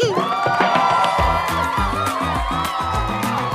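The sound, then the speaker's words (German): A loud crowd cheers and whoops with clapping mixed in, a dense, continuous burst of celebration lasting a few seconds, with a rhythmic backing underneath. “am Ende gibt's Applaus.”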